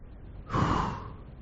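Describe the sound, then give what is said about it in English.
A single deep, audible inhale taken during a breathing exercise, swelling quickly and tapering off over nearly a second, with no talking around it. “Breathing in, I'm powerful and in control.”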